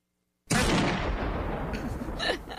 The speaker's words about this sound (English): Okay, so four out of 4 gunshots out of a high-capacity clip.